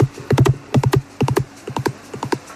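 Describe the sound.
A horse gallops away at night in quick clusters of three or four hoofbeats, the thuds steady and rhythmic, heard from inside a barn while the horse is outside, growing slightly fainter as it moves away. No one speaks.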